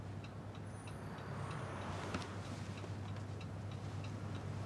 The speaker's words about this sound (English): Can you hear a ticking sound?